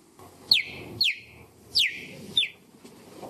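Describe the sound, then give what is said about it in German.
Four high, bird-like chirps from a cheetah, each a sharp descending squeak, arriving in two pairs over a low rumbling background. Clear, with no talking. “Also das ist kein kleines Vögelchen, das ist wirklich ein Gepard, die fiepen so.”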